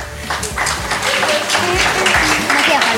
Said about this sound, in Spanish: Ah, ok, un fuerte aplauso, ¿no?